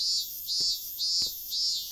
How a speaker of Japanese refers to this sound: できれば一緒になるのはこんなセミのうるさくない日が良かったけど、この鳴き声聞いてるだけでどんどん体力奪われてく感じがする。あるのとないのとじゃ体感的に5度くらい違うよ。